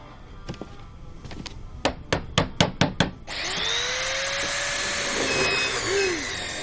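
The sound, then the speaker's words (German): While a small cabinet is being assembled, six quick, evenly spaced hammer blows ring out sharply after a few scattered taps, then a steady whirring, rising-and-falling power tool noise takes over until the end. “Ich krieg das Schränkchen irgendwie nicht alleine aufgebaut.”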